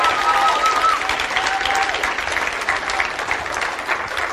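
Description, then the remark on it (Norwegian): Steady, dense applause from an audience for a worship band, many hands clapping at once in a sustained wash of sound, with a few faint whistle-like tones rising briefly early on. “Kan ikke vi gi en kjempestor applaus til dette lovsangsbandet?”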